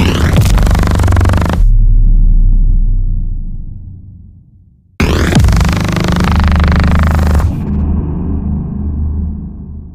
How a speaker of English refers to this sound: So you shared with us this vacuum cleaner suction sound that I think is a really great example of that. Let's take a listen.